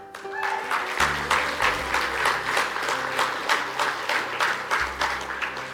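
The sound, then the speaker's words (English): An audience claps steadily on Baptism Sunday, many hands making a dense, continuous patter that holds at a strong level throughout, with a low sustained tone like an organ or keyboard underneath. “Are they clapping because of the baptisms or because they know it's a short sermon?”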